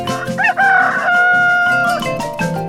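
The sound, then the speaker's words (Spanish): A rooster crows once, loud and close, a long drawn-out cock-a-doodle-doo with a rising start and a sustained wavering tail, with no one speaking. “Esto quiere decir que el gallo no canta porque ve que está amaneciendo, sino por lo que le dice el reloj biológico que tiene por dentro.”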